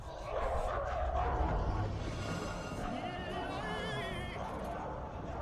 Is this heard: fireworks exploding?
no